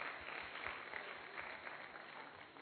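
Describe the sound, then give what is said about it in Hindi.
An audience claps steadily, a dense wash of many hands beating together at an even loudness for a few seconds, with no voices standing out, applauding the brothers for their effort. “आ गए, ताली बजाओ, जोरदार ताली बजाओ सभी भाई के लिए।”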